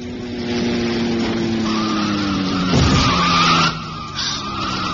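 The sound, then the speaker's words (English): A car engine roars at speed, then tires let out a long, high squeal as it skids, with a heavy thud of impact partway through the screech as the car runs down and kills a man crossing the road in the West End of London on New Year's Eve. No voices. “I mean, just how could a car get up enough speed in the West End of London on New Year's Eve to run down and kill a bloke?”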